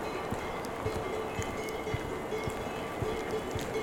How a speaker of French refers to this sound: Un bruit de fond. Le vent sur la cime des arbres.